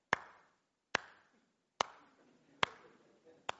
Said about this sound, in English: Golf clap time. Right? So you got your applause.